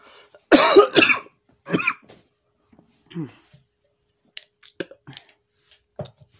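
A person coughs hard, one loud rough burst followed by a shorter second cough, then quieter throat sounds and a few small clicks against an otherwise quiet background.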